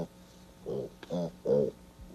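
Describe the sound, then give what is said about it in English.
Young piglets, one month old and huddling together, make three soft, short grunting squeals in quick succession, evenly spaced and fairly quiet against a still background, with a faint click between the first two. “They're only 1 month old. Just huddling together there.”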